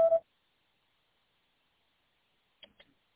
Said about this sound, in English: I'm sorry, this person is not available. If you would like to leave an additional message, please reply after the tone.